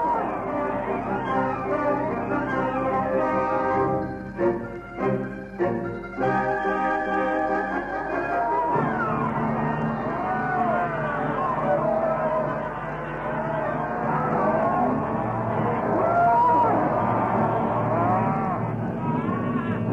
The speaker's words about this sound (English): Cattle and men everywhere. Cattle tearing about the place with natives in front of them. Natives burbling about with cattle ahead.